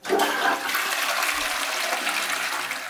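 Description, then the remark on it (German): A water closet toilet flushes with a loud, rushing gush of water that starts abruptly and churns steadily for a few seconds, with no voices. “In westlichen Gebieten ist das in der Regel ein Wasserklosett.”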